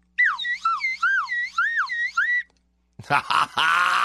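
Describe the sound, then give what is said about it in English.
A slide whistle, played on an afternoon radio show on 96K Rock, swoops up and down in pitch over and over for about two seconds, a bright, warbling tone. After a short pause, a voice starts talking. “You need the old slide whistle sometimes.”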